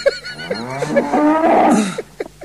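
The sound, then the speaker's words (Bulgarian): A cow gives one long, drawn-out, loud moo, swelling in the middle and trailing off, with a few soft rustling noises at the end and no one talking. “Твоята крава е друго нещо.”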